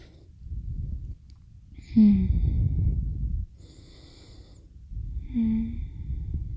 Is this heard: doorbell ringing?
no